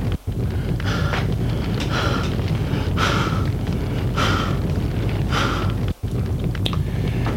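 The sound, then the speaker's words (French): A sweating woman pants heavily and out of breath as she gets back up, loud, with ragged breaths coming roughly once a second over a constant low rumble. Nobody speaks. “Elle se relève essoufflée, en sueur.”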